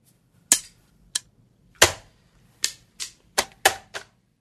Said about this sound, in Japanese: 使い込まれた将棋盤、対局時計を叩く手。大広間に将棋盤がぎっしりと並び、40人ほどの奨励会員が対局に励んでいる。